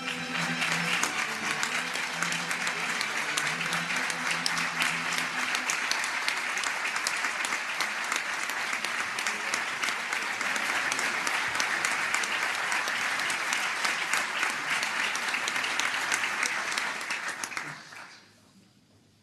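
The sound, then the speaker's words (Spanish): Sustained audience applause for 73 new doctors at a doctoral ceremony where the rector placed their caps on them. A dense, steady clatter of many hands clapping lasts about seventeen seconds before quickly fading out, with a few low voices murmuring beneath it at the start. “El aplauso para todos ellos, hasta 73 nuevos doctores y bueno, se les ha impuesto, llevaban el birrete en la mano y ha sido el rector el que nuevos les ha impuesto.”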